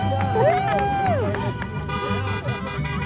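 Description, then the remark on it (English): A small family group cheers outdoors from a rock outcropping along a bend in the road, clapping and shouting for graduates driving by, with rising and falling whoops and shouts over scattered claps and a steady rumble of background noise. “They stand on a rock outcropping along a bend in the road and clap and shout for every graduate driving by.”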